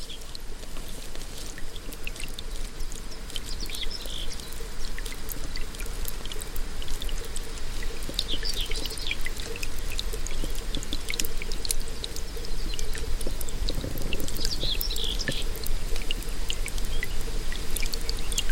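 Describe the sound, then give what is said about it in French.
Water from the Vienne river pours and gurgles steadily as it drains down into the ground, a continuous rush with bright splashing trickles and drips throughout, and no voices. “qu'on a perdu la Vienne qui est rentrée dans le sol. On l'entend là.”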